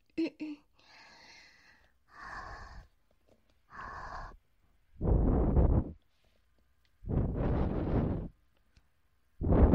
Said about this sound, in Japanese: はあ、ちょっとだけ拭くよ。よいしょ。ミニティッシュだからガサガサ音がすごいね。